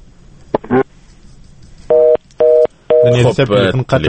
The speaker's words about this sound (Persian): خب تلفن قطع شد.